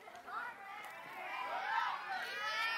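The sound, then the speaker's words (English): A crowd cheers and shouts for a little boy called up to help with a demonstration, many voices overlapping in a steady, excited din of rising and falling calls that holds for the full few seconds. “He brought his own cheering crowd, too.”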